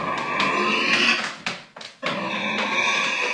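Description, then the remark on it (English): Esther the pig grunts and oinks in loud, drawn-out, squealing bursts, with a short break in the middle before the noisy vocalizing resumes. No one speaks. “Meet Esther the pig.”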